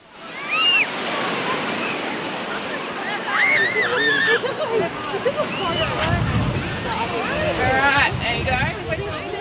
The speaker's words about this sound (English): I'm at Anglesey on the surf coast, and it's 19 degrees and windy. It's going to be really cold on the beach.